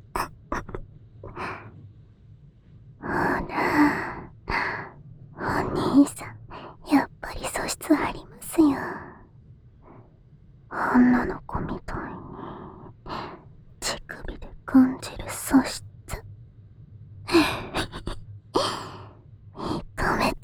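human body sound, heavy panting breaths

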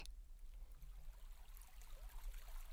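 nature, babbling brook water

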